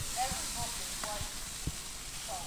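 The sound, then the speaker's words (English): Tri-tip sizzles on a barbecue grill on a Saturday night in Sacramento, California, at about 75 degrees, with a steady crackling hiss, while faint voices murmur in the background and a few soft low thumps punctuate it. “Got that sizzle drizzle, you know?”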